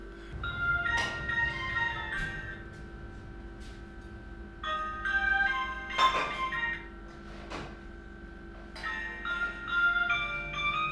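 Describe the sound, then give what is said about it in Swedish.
The timer of a glass-windowed convection oven cooking Janssons frestelse signals the food is ready, playing a Christmas-music electronic chime melody, a string of bright, high tinkling notes in repeated phrases over a low steady hum, with no one speaking. “Det här är alltså ugnens klocka som signalerar att maten är färdig.”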